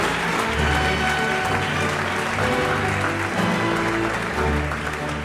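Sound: audience applause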